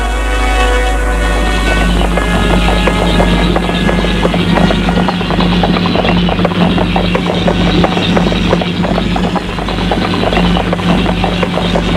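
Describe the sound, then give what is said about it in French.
Steady, rhythmic hooves of a ridden horse clip-clop over a low, continuous rumble, the hoofbeats fairly loud, with no voices. “Donc, il prend son cheval et va vers voir Jean.”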